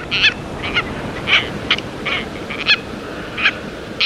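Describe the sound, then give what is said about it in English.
A series of shrill, harsh tropicbird calls repeats in short bursts, roughly eight cries spaced irregularly over a steady background hiss, clear with no voices. “Three species of tropic birds range through most of the tropical latitudes of the world's oceans and have done so for 60 million years.”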